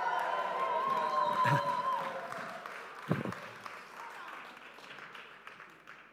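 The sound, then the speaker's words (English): A crowd applauds with scattered cheers, a steady wash of clapping that gradually thins and fades out over several seconds. “God's work being done by God's people. And that's worth cheering.”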